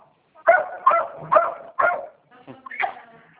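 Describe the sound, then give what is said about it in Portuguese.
A dog barks four times in quick succession, sharp, followed by a couple of softer yips or whimpers, during a phone call. “É que o cachorro está latindo aqui.”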